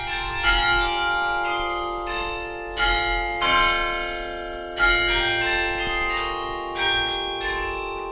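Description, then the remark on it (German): Tuned carillon bells, played by striking the keys of a loom-like keyboard console with the fists and working foot pedals, linked by pull wires to the bell clappers, ring out in a melodic sequence, several bells struck in rhythmic groups with long shimmering overlapping overtones, fairly loud and resonant, with no voices. “Über Zugdrähte sind Tasten und Pedale mit den Klöppeln der Glocken verbunden.”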